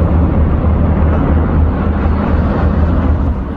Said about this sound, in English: As military helicopters hovered overhead, a large number of protesters gathered on the ground.